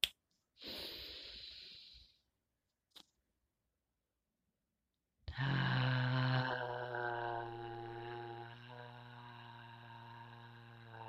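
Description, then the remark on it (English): An audible breath in through the mouth during a breathing exercise, a brief pause with a small click, then a long voiced 'ah' exhaled steadily for several seconds, slowly trailing off. “The last one, with the silence, let us use a voice, the vocal, to let that all out, no longer serving energy from the mouth, with the sound of ah.”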